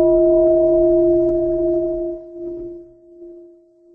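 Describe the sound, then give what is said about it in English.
A single stroke of a large bell, rung to call retreat participants back, rings out with a deep, steady hum of two clear tones that sustains and slowly fades over several seconds with no voices. “So that sound of the bell was to invite us back, if we are not here yet, and to invite all friends from everywhere to join us in this beautiful retreat.”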